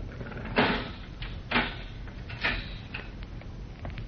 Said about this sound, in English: As we rejoin Jim now, a uniformed guard is leading a short, thin man along the corridor toward the cell. They stop in front of it. The guard unlocks the heavy steel door.